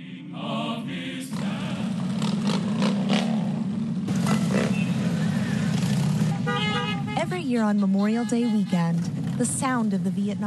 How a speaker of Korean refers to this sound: 또 퇴역 군인들에 대한 감사를 잊지 말자는 취지로 오토바이 수천 대의 행렬이 펼쳐집니다.